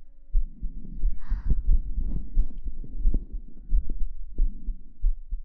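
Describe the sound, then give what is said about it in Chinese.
A steady, muffled heartbeat thumps along at an unhurried, calm pace, each beat a deep, soft double pulse, with a faint hum underneath and no voices. “心跳好平缓啊。”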